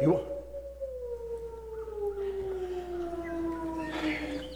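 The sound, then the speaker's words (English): A single long, mournful howl like a hungry wolf, sliding slowly downward in pitch over several seconds, fairly loud, with faint background noise around it. “Sometimes God uses nature to get his point across. And it sounded like a hungry wolf.”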